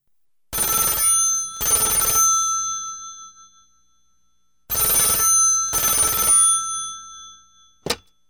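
An old-style telephone bell rings for an incoming call in two double bursts with a pause between them, loud, its metallic ring decaying after each burst, then a brief click as it stops when the call is answered.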